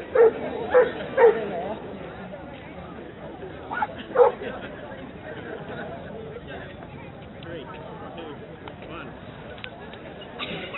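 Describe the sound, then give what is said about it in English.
Dogs bark excitedly at a gathering flash mob of a few hundred people on a mall, a quick burst of three sharp barks followed by another a few seconds later, over a steady murmur of people talking in the background. “Dogs are all excited.”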